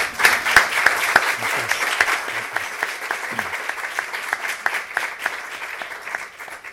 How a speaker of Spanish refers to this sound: Así que podemos darle un aplauso, bienvenido.